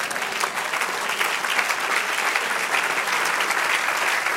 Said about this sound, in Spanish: Y dele un aplauso al Señor.